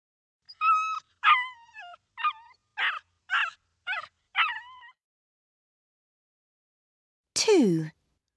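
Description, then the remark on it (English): A cold little dog under a tree whimpers in a string of seven short, high-pitched whines, then falls quiet before one last longer whine that slides downward in pitch. “There's a little dog under a tree.”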